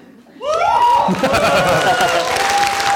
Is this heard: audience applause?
yes